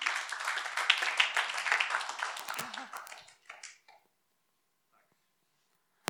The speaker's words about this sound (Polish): Zapraszamy, możemy dać im też oklaski serdecznie.